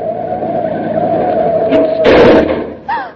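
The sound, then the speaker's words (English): A car brakes hard to stop quickly rather than run into a taxi cab, its tires letting out a long, steady high-pitched squeal for about two seconds before ending in a loud, noisy lurch as it halts, followed by a brief vocal sound. “Would you have preferred to have me run into that taxi cab or stop quickly?”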